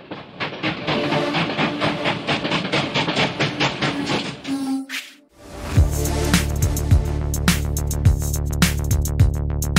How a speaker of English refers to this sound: On aboard the choo-choo train.